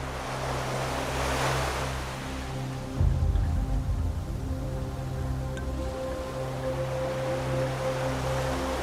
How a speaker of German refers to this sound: Gemeinsam mit dem Rauschen der Wellen singen sie ihr Lied.